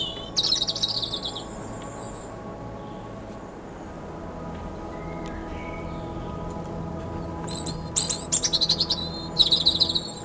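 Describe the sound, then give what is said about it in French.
A bird perched in a tree sings in short, bright bursts of high chirps, pausing between phrases, set against a steady low rumble of wind. No one speaks. “Un arbre au-dessus de moi, sur lequel est posé un oiseau qui chante.”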